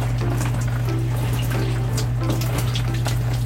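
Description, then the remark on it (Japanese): Hot shower water trickles steadily in a soft, continuous wash while someone washes their hair. There are small splashing flickers over a low, constant mechanical hum underneath, and no one speaks. “まあ、あの普通のシャワーと違ってちょろちょろと出してる感じかな。”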